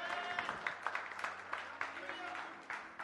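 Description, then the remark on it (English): An audience claps their hands in a dense, steady wave of overlapping claps with a few sharper accents, holding a fairly even loudness throughout, with a faint murmur of voices and a low steady hum underneath. “Clap your hands if you really believe it.”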